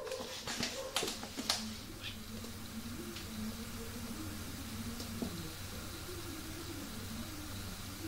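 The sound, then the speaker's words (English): Dogs sent after people bark a few times in quick bursts near the start, followed by low, drawn-out whimpering over a steady hiss of background noise. Everything sounds faint. “They send dogs after us.”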